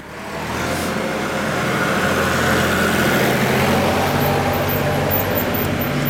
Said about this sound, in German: Oh, kommt gerade ein Traktor.